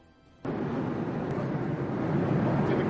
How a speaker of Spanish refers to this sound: Y este es el momento del tenso encuentro de un caza español y dos aviones rusos. Desde Moscú aseguran que sus aviones de combate realizaron maniobras agresivas hacia el F-18 español cuando este se situó cerca de la aeronave que trasladaba al ministro